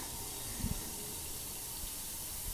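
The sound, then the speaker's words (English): A steady, soft fizzing hiss in water runs throughout, like something bubbling away beneath the surface, with a brief low bump near the start and no voices. “That's a fizzy one.”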